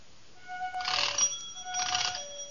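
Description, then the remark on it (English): The doorbell at number 14 Pembroke Street in Glasgow, Scotland, in 1857 rings impatiently in two insistent bursts, each a shrill, buzzing jangle lasting about half a second, separated by a brief pause, loud and with no voices. “That's the way the doorbell sounded at number 14 Pembroke Street in Glasgow, Scotland.”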